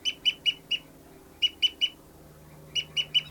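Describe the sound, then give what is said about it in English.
Sharp, high-pitched bird fight calls in rhythmic bursts: a run of four loud notes, a pause, three more, then another three, each note clipped and harsh against a low steady hum. The calls come from bird 273 flying around and fighting with bird 274, a female. “Fight call by 59's flying, oh, that was 273 flying around.”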